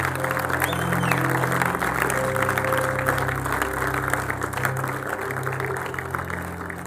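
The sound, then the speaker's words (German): A crowd claps steadily for about seven seconds, a dense, rattling wash of applause at fairly even loudness, with a low sustained keyboard tone humming underneath. “Come on, lass uns den Leuten mal einen Applaus geben, die gerade.”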